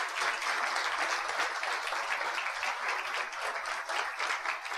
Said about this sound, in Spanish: O sea, este éxito también es de ellos, de mi papá y de mi mamá. Un aplauso para ellos.